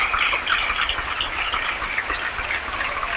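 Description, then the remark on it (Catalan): Sustained, vigorous applause from a large crowd following a pregó (festival proclamation speech), a dense and steady wash of clapping that stays loud throughout with no voices speaking over it. “I continuen els aplaudiments. Amb força, amb ganes.”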